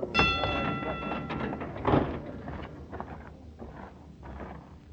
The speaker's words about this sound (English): This is our train here